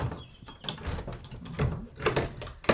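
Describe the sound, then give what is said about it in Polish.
A padlock on the exit from a house's porch to the garden being opened: a string of metallic clicks and rattles, with a brief thin squeak early on and sharper clacks near the end, no voices. “Na kłódkę zamykane.”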